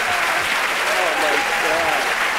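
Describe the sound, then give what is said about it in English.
Steady applause from a crowd, a dense continuous wash of clapping at even loudness throughout, with faint voices blending in underneath. “It's the applause.”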